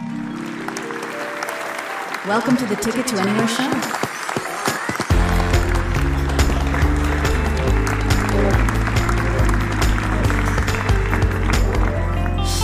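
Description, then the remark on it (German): Sustained audience applause for actor Maximilian Mund runs throughout, loud and dense, while a jingle plays beneath it. A voice briefly announces something, then steady bass-heavy music swells under the clapping. “Deswegen einen großen Applaus für Maximilian Mund.”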